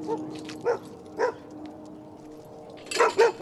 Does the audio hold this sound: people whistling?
no